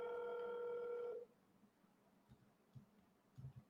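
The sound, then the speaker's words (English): A phone on speaker gives a steady, buzzy electronic tone for just over a second, then cuts off, leaving faint low rustles and soft thumps with no talking. “Yeah, maybe I can put him on my speaker on the phone.”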